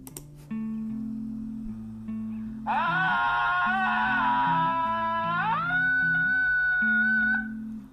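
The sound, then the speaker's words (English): A long, loud human yell with a wavering, warbling pitch, Tarzan-like, that sweeps upward partway through and holds before cutting off, over a steady background of low music. “So that was a very nice scream. It had a little of a Tarzan effect there.”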